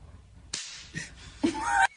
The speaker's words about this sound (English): do you want to hear the … boob slap?